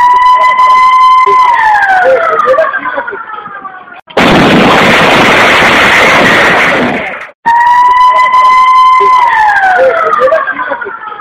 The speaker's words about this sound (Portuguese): Cada detonação é precedida de 3 sirenes. A primeira e a segunda indicam alerta. A terceira indica evacuação da área. Após a explosão, uma quarta sirene é acionada para indicar o final da detonação e volta das atividades na área.